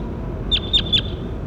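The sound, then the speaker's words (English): A bird, bird number 27 being recorded in the field, calls three times in quick succession, short high-pitched chirps that dip downward at the end, rising over a steady low rumble of background noise. “That was bird 27. The real 27.”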